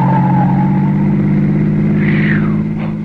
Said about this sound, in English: Lordy, that was a close call. Why, it looked as if that car was deliberately trying to run you down.